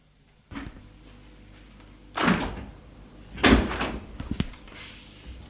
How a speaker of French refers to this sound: La porte s'est ouverte. C'est la sœur qui amène ce qu'il faut pour écrire.